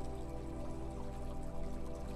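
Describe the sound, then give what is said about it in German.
A steady, continuous rush of flowing water from a brook, soft and even throughout with no breaks, blended with a low sustained tonal hum underneath. “Vielleicht hörst du schon den Bach. Das fließende Wasser.”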